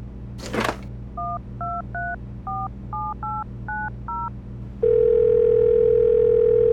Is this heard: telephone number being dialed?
yes